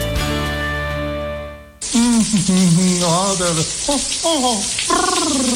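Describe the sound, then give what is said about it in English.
After a brief sustained musical tone, a tap suddenly turns on and water runs in a loud, steady rush, with a voice speaking over the noise. “Did you just turn on some water someplace?”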